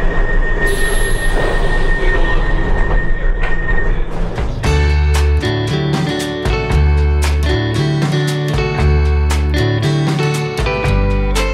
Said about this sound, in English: This train is now ready to depart. Please stand clear of closing doors.